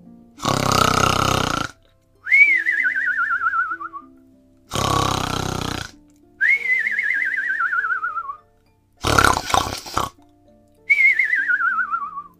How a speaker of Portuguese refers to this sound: Até que o gigante começou a roncar, fazendo a casa inteira tremer.